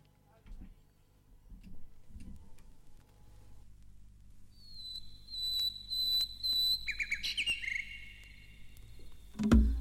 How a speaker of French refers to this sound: Le morceau, c'est … avec des petits bruits d'oiseaux.